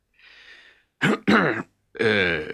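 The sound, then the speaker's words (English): A soft breath, then two quick, rough, throaty coughs in a row from an old man coughing nervously, followed by a brief voiced sound as if he clears his throat to speak. “The old man coughed nervously.”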